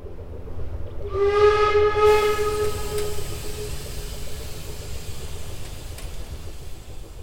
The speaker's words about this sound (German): Die Lokomotive pfeift und zischt, und es röten sich in den Strahlen der untergehenden Sonne die Vorhänge an den Fenstern.